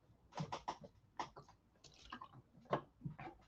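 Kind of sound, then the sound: food or drink, pouring and drinking water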